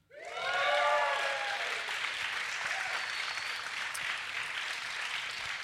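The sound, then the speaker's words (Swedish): A live audience at the Lund Comedy Festival, in a grand hall of Stadshallen in Lund, Sweden, bursts into loud, steady applause, with high rising whoops and cheers at the start and a brief whistle partway through, the clapping carrying on evenly to the end. “Kan vi få höra publiken?”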